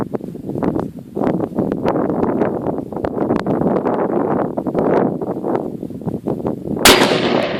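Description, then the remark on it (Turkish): Rapid, continuous gunfire from a gun with a speed trigger crackles and booms in dense overlapping bursts, loud, ending with one especially sharp, bright blast at the end that sends shrapnel flying back; no one speaks. “Bir şey geldi gerilere. Taş mı sıçradı? Kolum moraracak.”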